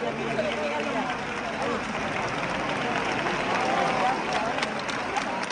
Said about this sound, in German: In diesem Jahr ist es um 3.13 Uhr am Morgen soweit. Die Menge jubelt, als die auf den Schultern getragene Jungfrau aus der Kirche gleitet und über den Köpfen der Wartenden zu schweben scheint.